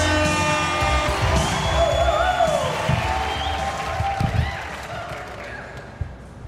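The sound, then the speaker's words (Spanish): A live audience applauds and cheers loudly for the next performer, with whoops and shouts rising over a dense wash of clapping that gradually eases toward the end. “Fuerte aplauso para el siguiente individuo, una de las caras más nuevas que se ha estado presentando aquí en este espacio.”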